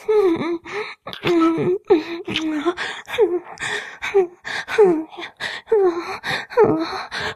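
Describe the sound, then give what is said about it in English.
A voice lets out a steady series of short, breathy gasps and high whimpering cries, roughly one or two every second, with no clear words spoken. “You're like making me whimper.”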